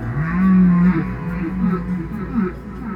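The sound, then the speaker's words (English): A deep, drawn-out moaning tone swells loudly and holds for about half a second, then gives way to a string of lower, wavering groans and short calls of singing baleen whales. “The baleen whales, when they sing, the big ones that are singing very intensely, those are very intense sounds.”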